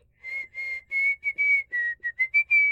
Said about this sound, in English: You could also hear the Navy whistle sound off over and over for 5 seconds.